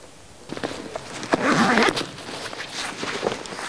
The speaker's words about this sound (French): Et dans le brouillard, comment tu fais pour te repérer? Tu te repères au son des brebis? Ouais, au son des cloches. Là, ça, c'est des brebis du Pays Teuil, donc d'ici. Et elles ont des cloches différentes des miennes, qui sont des brebis basques.